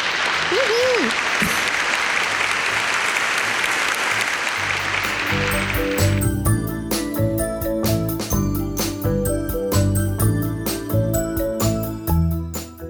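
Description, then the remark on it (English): A loud burst of crowd cheering and clapping, played as a sound effect, fills the first several seconds, then gives way to an upbeat music jingle with steady rhythmic hits. “I was going to have a cheering sound effect.”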